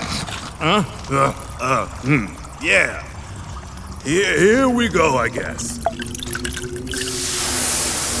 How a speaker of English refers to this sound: Okay, the tangerine syrup is ready. Let's pour it on the hourglass.